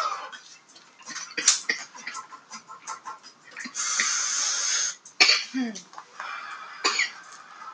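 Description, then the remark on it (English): Someone coughs in a series of harsh, irregular bursts, broken by a long raspy exhale midway through and a few sharper hacks toward the end. “You're over there coughing.”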